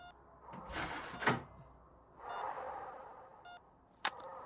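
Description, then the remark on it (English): A door swishes as it is pulled, with a thud partway through, another sweep of movement, then a sharp click of the latch catching at the end. Fairly quiet, with no voices. “Pull that door with you.”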